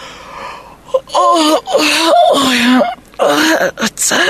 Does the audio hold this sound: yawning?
yes